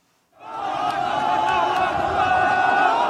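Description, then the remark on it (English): A huge crowd chants "Allahu Akbar" (God is great) in unison as civil defense volunteers pull a boy from the rubble of his home three days after an earthquake; many voices merge into a loud, sustained roar that starts abruptly and holds steady and dense. “A huge crowd chants, "Allahu Akbar, God is great."”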